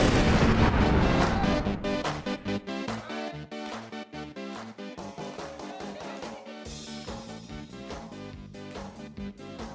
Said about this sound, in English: Had we missed this tune? Been missing the …. Thank goodness Packers gave us a reason to play it this morning.